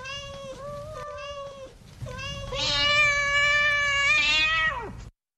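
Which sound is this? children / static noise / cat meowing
cat meowing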